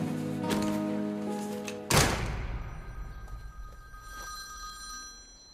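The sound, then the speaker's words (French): A telephone bell rings loudly and steadily for about two seconds, then a sharp thunk cuts it off, leaving a faint ringing resonance that fades out. No one speaks. “Tu étais avec qui au téléphone?”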